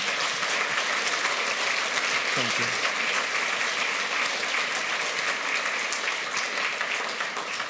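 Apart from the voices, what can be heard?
audience applause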